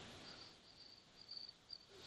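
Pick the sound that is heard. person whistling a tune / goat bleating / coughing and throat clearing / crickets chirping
crickets chirping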